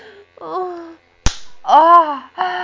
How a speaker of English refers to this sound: Slap me. I wanna get slapped. Ah, I love it when you slap me, Master. Slap me more like you did before. Please slap me.